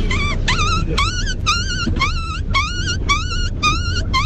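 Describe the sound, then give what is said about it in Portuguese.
A person imitates a dog yelping in pain after being hit by a stone: about nine sharp, high-pitched yips in quick, steady succession, loud, over a low rumbling background. “Dessa vez é um cachorro quando leva uma pedrada.”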